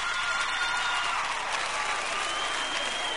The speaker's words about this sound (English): Okay, now, let me hear the women clap that have men that are loyal to them, truthfully. I see y'all some disillusioned ladies clapping right now.